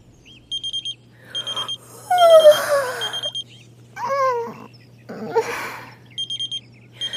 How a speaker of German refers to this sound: Oh, dieser verflixte Wecker.